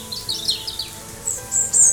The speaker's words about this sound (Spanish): Ya oyes los pajaritos. Hay muchos, muchos.